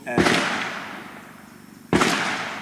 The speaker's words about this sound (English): In the middle of our conversation, two gunshots ring out. The shots are a reminder that this isn't summer camp.